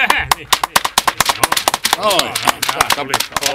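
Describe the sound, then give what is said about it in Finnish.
A group claps together for the actor Ola Tuominen in a fast, irregular patter of sharp hand claps, with voices calling out partway through, underneath the applause. “Täällä taputettiin Olalle jo oikein porukalla.”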